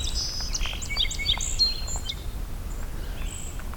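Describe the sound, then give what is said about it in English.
A chipping sparrow's song of quick, dry high notes rings out, mixed with other scattered bird chirps over a low outdoor rumble, with no talking. “We got chipping sparrow.”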